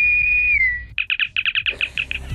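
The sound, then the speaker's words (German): A frog's high whistling calls, a bit reminiscent of the spaceship Enterprise from Star Trek: one long steady whistle that dips slightly in pitch, then a quick run of about a dozen short, bright whistled pips over a low rumbling background. “sondern die machen so Pfeiftöne, die so ein bisschen an das Raumschiff Enterprise erinnern.”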